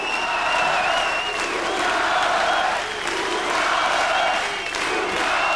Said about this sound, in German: Minutenlang hört der Applaus nicht auf.